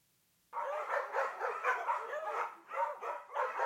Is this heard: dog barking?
yes